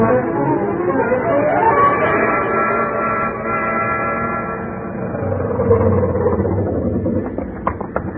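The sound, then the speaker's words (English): An old 1929 Ford car drives along steadily, its engine giving a continuous rumbling drone with a buzzing tonal hum, fairly loud for several seconds, with no voices. “I jumped into my pants and into the landlady's car and got over there as fast as the 1929 Ford could take me.”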